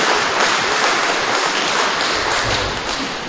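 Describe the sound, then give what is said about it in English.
A crowd applauds with dense, steady clapping that holds at an even, fairly loud level for a few seconds. The hiss-like wash of many hands dips slightly near the end, and no one speaks. “A bunch of you didn't applaud.”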